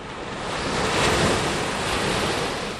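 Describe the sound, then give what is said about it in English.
Ocean waves wash in steadily against the shore, a broad roaring surge that swells and eases, with some wind rushing across the microphone and no voices. “We're on the coast near Clausen's house”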